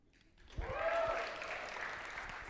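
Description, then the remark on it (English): An audience breaks into applause that swells quickly after a brief quiet moment, then holds as a steady, moderately loud wash of clapping through the end. “Sorry, I asked for your applause.”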